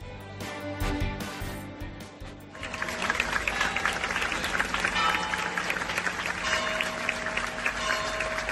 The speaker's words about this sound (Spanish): Una ovación cerrada de 4 minutos por partida doble, tanto a su llegada a esta iglesia como a su salida. Una ovación cerrada de los cientos y cientos de personas que han venido, como digo, a esta iglesia.